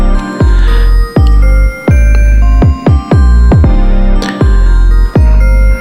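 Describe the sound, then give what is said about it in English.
Loud electronic music, all produced on an Elektron Digitone, with heavy bass notes thudding in a steady, uneven rhythm beneath ringing, bell-like tones that chime and sustain. No voices are present. “There's bells in this, and there's bass.”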